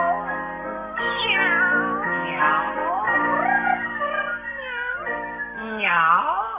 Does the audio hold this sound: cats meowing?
yes